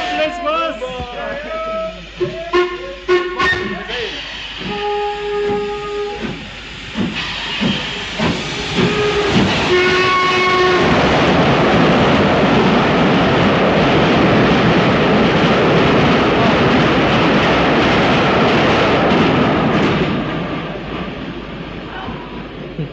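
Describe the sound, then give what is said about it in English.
A steam train's whistle sounds a couple of times amid station clatter, slamming doors and murmuring voices at a small junction station linked with Northampton and Peterborough, then a loud, sustained hiss of steam builds and rushes for several seconds as the train pulls away. “The whistle has thus blown away.”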